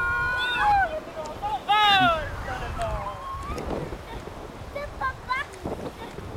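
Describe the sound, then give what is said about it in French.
Strong wind roars and buffets the microphone in a steady low rumble, with loud high-pitched cries and calls rising over it in the first few seconds. “Le vent, le vent, le vent!”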